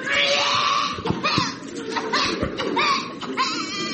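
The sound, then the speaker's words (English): A child shrieks and wails in repeated loud, high-pitched bursts, with short breaks between cries, over a busy background of indistinct noise in the smoking area of the Heathrow Airport departures hall. “And the only seat is in the smoking area, next to a screaming brat.”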